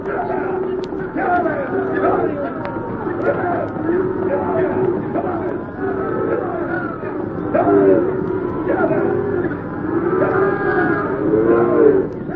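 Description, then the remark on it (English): A dense chorus of overlapping moos and lowing from a herd of cattle being driven along, continuous, with a murmur of background voices and shuffling mixed in. “Come on, let's get these cows moving.”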